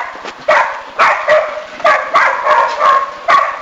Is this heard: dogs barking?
yes